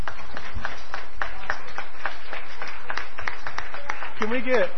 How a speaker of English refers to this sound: Let's give our kids a round of applause.